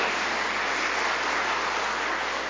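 Sustained audience applause, a dense, steady wash of many hands clapping at even loudness throughout, with no voices standing out.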